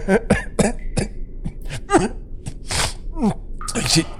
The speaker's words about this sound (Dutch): Ik zit alleen maar met die vervelende hoesten. Het vocht op de muren helpt daar natuurlijk ook niet echt aan bij.